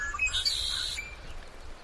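Birds sing in a quiet forest, a quick burst of thin, high chirps and whistles that fades within a second, leaving soft, still outdoor ambience with no voices.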